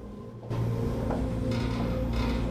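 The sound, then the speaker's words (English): A door at the top of some stairs along a hall is pulled open with a sudden start, then a steady low grinding scrape that swells twice into brighter, rougher surges as it keeps moving, with no voices. “She's distracted by a door being opened at the top of some stairs along a hall.”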